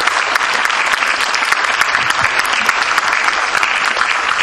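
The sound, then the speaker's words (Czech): Steady, dense, loud applause from an audience fills the whole stretch, with many hands clapping continuously at an even intensity and no pauses. “Pojď mezi nás a ještě a potlesk.”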